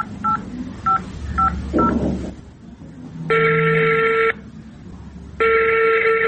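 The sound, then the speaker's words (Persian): Four quick, evenly spaced keypad beeps from a mobile phone being dialed, followed by two long, steady ringing tones as the call connects. Clear, with no talking. “موبایلم بده که با مامای زنگ بزنم.”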